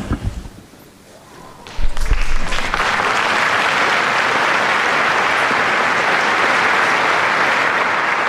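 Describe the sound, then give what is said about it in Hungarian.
A large crowd of pilgrims in the Paul VI Hall bursts into loud, sustained applause thanking Pope Francis for his teaching and blessing, a dense steady roar of clapping that starts abruptly after a few quiet seconds and continues without letting up. “Mai napon is a hatodik Pál teremben levő zarándokok tapssal köszönik meg Ferenc pápa tanítását és áldását.”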